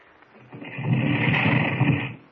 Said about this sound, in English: Now, here. Stand back a little. I'll press the button that opens this stone door.